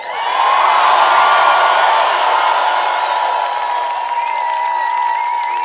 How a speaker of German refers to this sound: Ja, Freunde, jetzt gebt mal einen echt fetten Applaus für einen schlanken Mann,